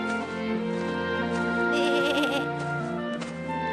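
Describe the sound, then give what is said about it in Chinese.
A lamb bleats in a long, wavering, high-pitched cry that trembles and rises midway, sounding loud and clear with no talking over it. “什么东西正在跑过来呀？是一只，哎，是一只小羊”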